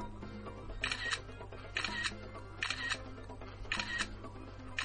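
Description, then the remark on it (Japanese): Phone camera shutter clicks fire off in quick succession, a demonstration of the phone's faster shutter speed: five crisp bursts about a second apart, clear over a steady low background hum with no talking. “で、まあ、普通にシャッター切ればいいんですけど、これ、すごい、便利なことに、今までよりもシャッターの切るスピードがめちゃめちゃ速くなったんですよ。”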